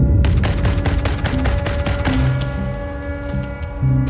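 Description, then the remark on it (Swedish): A heavy machine gun fires loud, rapid bursts of thudding shots in a steady rhythm, shooting over soldiers lying low, then thins out toward the end, over a low sustained droning hum. “Det är så här, dunk, dunk, dunk, dunk, dunk, så här tung kulspruta som de låg och sköt över oss.”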